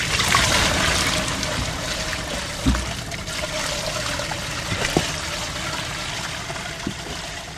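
Steady trickling and pouring water runs throughout, broken by a few dull thumps and slaps as the catch tumbles out of a cooler into a net. No one speaks.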